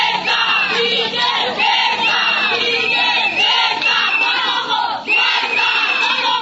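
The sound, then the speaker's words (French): Female vendors from the Mwandu market shouting and chanting in protest in front of the town hall buildings of Matadi, DR Congo, over a price increase, many overlapping voices forming a loud, continuous clamor with rising and falling cries throughout. “Ce sont des vendeuses du marché Mwandu qui poussent ces cris devant les bâtiments de la mairie de Matadi.”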